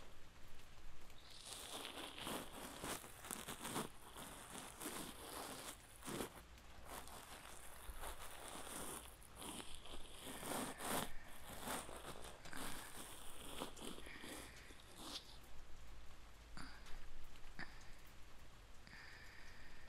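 Steady rain falls continuously, a dense crackling patter that stays evenly loud throughout, with close, uneven rustling bursts layered on top and no voices.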